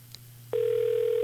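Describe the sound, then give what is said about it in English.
A faint click, then a loud, steady electronic ringback tone of a just-dialed outgoing telephone call starts about halfway through and holds unbroken to the end over a low background hum, with no one speaking. “Oh, it's ringing.”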